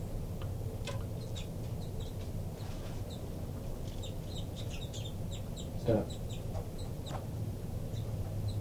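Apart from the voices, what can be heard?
baby bird begging calls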